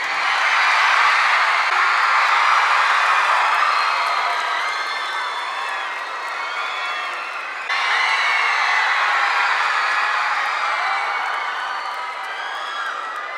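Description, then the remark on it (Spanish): A live show audience applauds and cheers for guest musicians joining the band on stage. It goes on steadily for over ten seconds, dense clapping with scattered whoops and shouts, loud throughout, dipping briefly before swelling again. “Por favor, muchachos, démosles un fuerte aplauso.”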